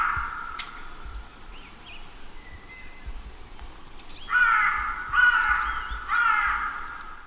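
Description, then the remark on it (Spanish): Ravens croaking outdoors, a single raven very close by and a pair flying overhead: faint calls at first, then three loud, harsh croaks in a steady rhythm near the end, with no one talking. “Un cuervo, uno solo en primer plano, muy cerquita, diciendo todas sus letras. Una pareja volando, por ahí arriba, crocitando, cro.”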